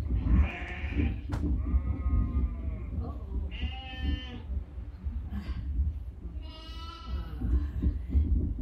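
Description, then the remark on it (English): Several sheep bleat in turn, wavering calls spaced a second or two apart over a steady low rumble, some loud, others a little softer. “Perhaps the most significant thing we need to remember about the fact that we have a good shepherd is that that does make us sheep. These sheep.”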